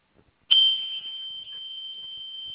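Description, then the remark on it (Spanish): A panic button alarm, sent from a vehicle unit at a dispatcher's request, sounds as a single continuous high-pitched electronic tone, starting abruptly and holding steady and loud, with only brief dips in level and no talking. “Mándame un botón de pánico, porfa.”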